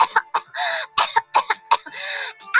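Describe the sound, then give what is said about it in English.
A voice imitating a coughing fit: a rapid series of harsh, hacking bursts broken by a couple of longer raspy, wheezing gasps, fairly loud with no other sounds. “The rats tiptoed onto her bedside, climbed up on her face, and inserted their tail between her throat, and the ogress coughed.”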